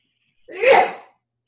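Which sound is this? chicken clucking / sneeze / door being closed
sneeze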